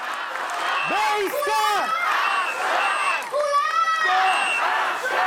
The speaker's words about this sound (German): Und da gab es auch so richtige Schlachtrufe. Er hat den Satz angefangen und die ganzen Menschen im Publikum haben den dann zu Ende geführt.